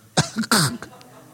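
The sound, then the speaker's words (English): A person vocally imitates a cat hacking up a hairball: a couple of harsh, throaty retching bursts followed by a short sputter, loud, with no other talking. “Spits out a hairball.”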